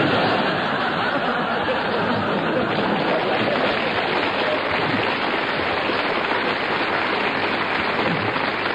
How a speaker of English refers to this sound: A very good challenge that got its well-deserved round of applause